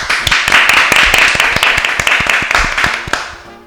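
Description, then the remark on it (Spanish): A crowd applauds at the end of a school poetry recital, with dense, steady clapping that keeps a brisk, uneven rhythm for a few seconds before tapering off toward the end. “¡Un fuerte aplauso!”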